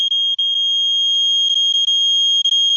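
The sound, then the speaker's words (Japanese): A radiation counter held against a refrigerator odor-removing deodorizer sounds off with a loud, unbroken high-pitched electronic tone, sprinkled with quick irregular blips and chirps, and no one speaking. “これにね、今外側カウンター当ててみますね。”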